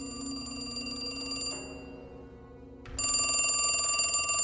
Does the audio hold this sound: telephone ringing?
yes